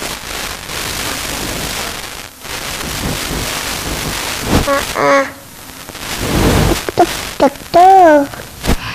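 Heavy rain hisses steadily throughout, with a low thunder rumble swelling partway through, and a few short voices speaking near the end.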